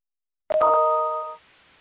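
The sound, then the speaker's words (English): A single electronic chime from a computer during an online meeting roll call rings out clearly, a bright tonal ding with layered harmonics that holds for under a second before cutting off, with no talking around it. “Excuse me, did that chime indicate that someone just joined us? No, that was just my computer doing something weird.”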